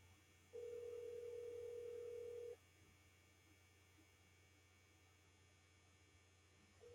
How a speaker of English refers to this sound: It's ringing.